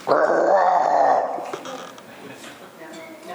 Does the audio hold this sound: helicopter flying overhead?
no